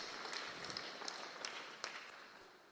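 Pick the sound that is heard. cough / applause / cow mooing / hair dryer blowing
applause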